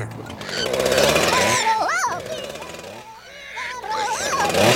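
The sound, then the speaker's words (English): A chaotic, loud jumble of imitated sounds presented as a juggling act in a radio ad for Antelope Valley Nissan Volkswagen: a buzzing chainsaw, squealing pig, squawking parrot, bleepy video game tones and warbling opera singer notes, apparently produced by voice, overlapping rapidly for several seconds. “Yes, I'm gonna juggle a pig, a parrot, a chainsaw, a video game, and an opera singer.”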